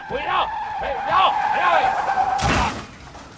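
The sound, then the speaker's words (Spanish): A sustained, wavering tire screech runs for a couple of seconds, then cuts off with a single loud crash of impact that quickly fades. “Bueno, chicos, me llena de orgullo y satisfacción deciros que los tres coches ahora solamente son dos.”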